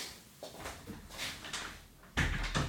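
A house door is pushed shut as people arrive home: some soft rustling and handling noises, then a solid thud near the end, followed by a short rattle. No one speaks.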